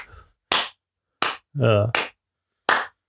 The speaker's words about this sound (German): Warte, Applaus.